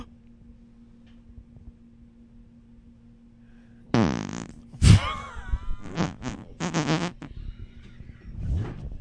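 After a few quiet seconds of low hum, a loud fart suddenly erupts, a rasping, buzzy blast followed by several shorter sputtering bursts over the next few seconds.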